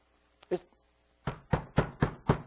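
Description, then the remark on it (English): A single knock, a short pause, then five quick, evenly spaced raps on a solid surface, fairly loud, with no talking. “That's the knock.”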